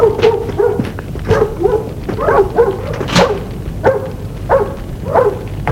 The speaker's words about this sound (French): Le chien aboyer dans la cour.